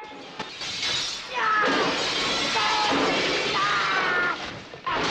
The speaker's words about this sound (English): The attacker enters and smashes the staff through a display case.